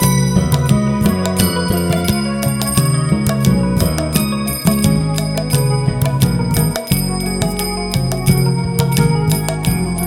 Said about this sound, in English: His golden form shimmered, pure and bright, with his ankle bells jingling in the morning light.